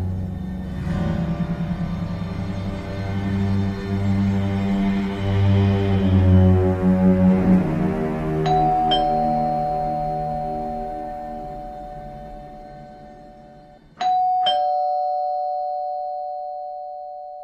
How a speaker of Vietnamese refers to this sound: thức giấc vì tiếng chuông cửa chói chát va vào không gian tĩnh lặng.